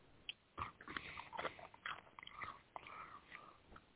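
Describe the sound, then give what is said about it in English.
Wet chewing, a steady run of irregular smacking and crunching bites for a few seconds with no one talking. “Who's chewing?”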